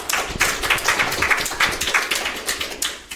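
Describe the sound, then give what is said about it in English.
An audience claps in sustained applause to welcome the speaker of the evening's last talk, on GNU Guix and software freedom. Many overlapping hand claps form a dense patter, with sharp individual slaps poking through, steady and fairly loud throughout. “So everybody give him a round of applause, please.”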